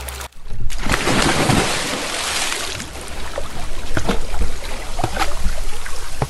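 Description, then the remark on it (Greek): A loud splash as someone falls into a river, followed by steady rushing and lapping of the river water, with small drips and sloshes scattered throughout and no voices. “Μιας και δεν βρήκε, όμως πήγε και έπεσε στο ποτάμι. Λουμ!”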